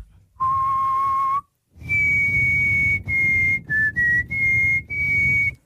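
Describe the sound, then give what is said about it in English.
Someone whistles a tune, a series of clear sustained notes rising and falling with short breaths between phrases, a little breathy and airy, with no talking. “Are we all shocked that … can feckin' whistle?”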